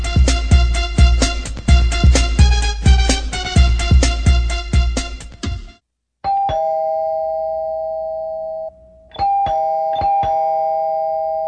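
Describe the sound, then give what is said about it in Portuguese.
A doorbell rings in a rapid, insistent run of bright chimes for several seconds, then pauses and sounds again as sustained electronic tones with sharp repeated strikes. Loud, with no voices. “Ô, Cris, abre a porta.”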